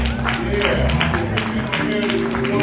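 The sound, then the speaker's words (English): An audience claps together in praise to God at a morning church service, a dense, steady wash of hand claps with a low hum of voices and instruments underneath, loud and sustained throughout. “God a hand clap of praise.”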